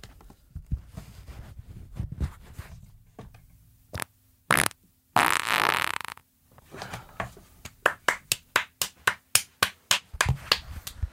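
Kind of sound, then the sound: human body sound, fart into the microphone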